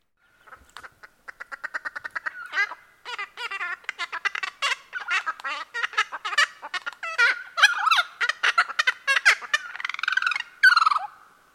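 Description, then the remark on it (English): A bird sings a long, intricate phrase of rapid, varied notes and trills with no repeated motif, clear, building in intensity over about ten seconds with no talking. “Here's a more complex phrase with no repeats.”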